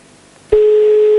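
After a brief stretch of faint line hiss, a loud, steady telephone ringing tone of a call to the mayor's office in Naples starts abruptly and holds a single pitch to the end, with no talking.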